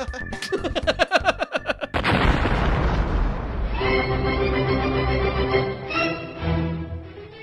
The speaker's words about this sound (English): All right, screw it. Cue the explosion.